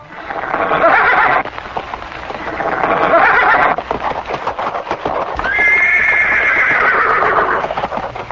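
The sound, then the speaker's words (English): The horse demon Keshi neighs loudly three times in drawn-out, wavering whinnies while hooves clatter in a steady galloping rhythm underneath throughout. “by neighing terribly and shaking the clouds with his tail, the Lord came forward to meet him.”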